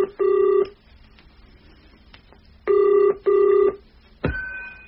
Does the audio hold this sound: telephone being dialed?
yes